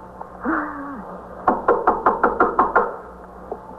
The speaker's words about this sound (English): All right, you better knock on the door. Aren't you supposed to do anything? Knock on the door.